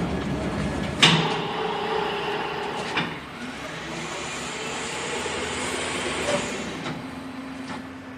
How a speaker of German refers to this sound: Der Kran hebt den Beton nun in die Baugrube. Dort wird er von den Bauarbeitern gleichmäßig verteilt.